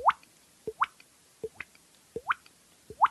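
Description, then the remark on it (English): A voice imitates a water drip: a string of about nine hollow, upward-bending plops, mostly in quick pairs of a lower pop and a brighter drop, repeating steadily with no talking. “Oh, I guess it would be the one I first learned that kind of blew my mind when an old guy taught me, and it was a water drip.”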